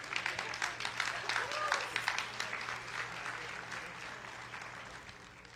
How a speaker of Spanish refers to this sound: Así que vamos a recibirla con un fuerte aplauso en esta noche.